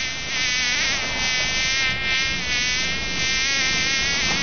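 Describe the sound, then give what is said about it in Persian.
A fly's buzzing drones steadily for the whole stretch, a continuous high whine with a wavering pitch and no voices. “نام من مگس است. من بچه گو مگس نواسه خرمگس هستم.”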